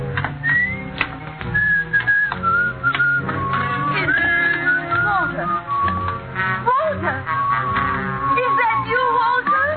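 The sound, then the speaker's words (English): A man, the character Walter played by Dane Clark in the radio drama Life Ends at Midnight, whistles a lilting, tuneful melody, clear, carried along over a dense, continuous background of other sound for the full stretch. “You still remember my whistle, eh?”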